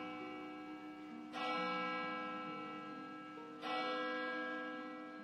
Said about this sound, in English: Above it looms a pointed tower of the town hall, with its slated roof and plated glass windows, casting a long shadow over the square. Echoing across the mountains, the valley itself seems to resonate with three tolls of the bell tower ringing.